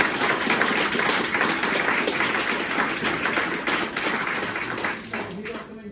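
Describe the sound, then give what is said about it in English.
An audience applauds steadily for several seconds for students who performed, a dense wash of many hands clapping that holds strong throughout and only begins to thin slightly at the very end. “I also had some students performing as well, so we'll have a round of applause for them.”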